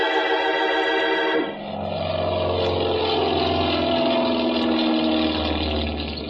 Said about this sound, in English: It was a nice afternoon, so I stood watching some of the planes take off and land.